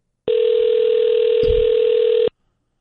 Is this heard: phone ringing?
yes